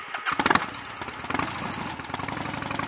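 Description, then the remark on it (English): A motorcycle engine cranks and sputters to life with a loud burst, then settles into a rapid, pulsing putter that keeps running steadily, as Joe is seen off on Frank's motorcycle. “After seeing Joe off on Frank's motorcycle”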